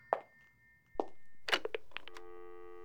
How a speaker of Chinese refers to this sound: 啊，主人，您请休息吧，小雨去接电话。